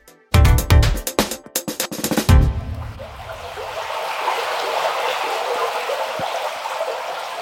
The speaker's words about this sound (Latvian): Tā šopavasar čalo nelielā Vildugas upīte netālu no Līgatnes Cēsu novadā. Tās plūdums ir būtiski uzlabots, jo ar Pasaules dabas fondu iniciatīvu šeit ir pārbūvētas divas problemātiskas ceļa caurtekas.